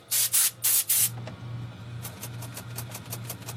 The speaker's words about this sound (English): He uses an air compressor to blow out the dust and gunk in the keys of a 1950s Royal Quiet Deluxe.